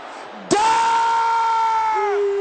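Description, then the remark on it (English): An audience at a prayer session erupts into a loud, sustained shout that bursts in suddenly and holds one high pitch for about a second and a half before dropping lower. “Any evil bird, carrying message against me, and my family, can I hear you shouting this loud?”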